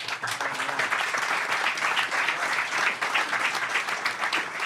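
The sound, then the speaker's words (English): A crowd applauds steadily, a dense, even wash of many hands clapping that stays loud and sustained throughout without any voices rising above it, applauding both debaters after a debate. “A round of applause for both of our debaters.”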